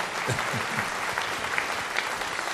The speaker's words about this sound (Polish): Proszę Państwa, jak przystało na wieczór sylwestrowy, zaczęliśmy tanecznie Mazurem ze Strasznego Dworu, orkiestrą Filharmonii, dyrygował pan Jakub Hrenowicz. A teraz, no parę słów dalej, klaski się zawsze należą. To było bardzo piękne wykonanie.